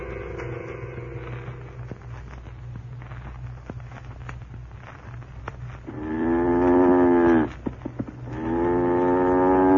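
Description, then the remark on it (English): A cow, bedded down for the night in a barn, moos, first softly at the start, then two long, loud, drawn-out moos near the end, over a steady low background rumble with occasional faint clicks. “Cow's bedded down for the night.”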